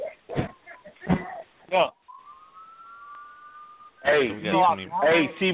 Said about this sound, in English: I know T Blair on the phone because I hear them some cop sirens in the background